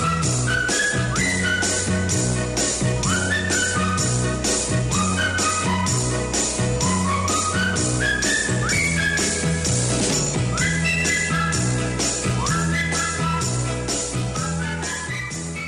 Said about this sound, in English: We're going to come back and we're going to hear again your ideas of what the great music was from the Summer of Love, your favorites, and we'll go out here with the whistling.